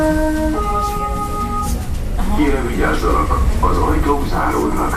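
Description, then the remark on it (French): A loud, steady low rumble of old, rust-eaten blue metro cars on line 3 of the Budapest metro, built in the 1970s by the Soviets, with a high tonal motor whine early on, and people talking over the noise in the second half. “les wagons rongés par la rouille font un bruit d'enfer”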